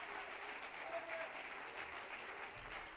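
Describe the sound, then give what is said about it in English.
A church audience claps steadily for a few seconds during a sermon, praising God, a dense, continuous wash of many hands with no pauses, fairly loud throughout, with faint voices mixed into the applause. “Clap your hands and lift your voice.”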